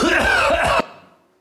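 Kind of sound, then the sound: human body sound, cough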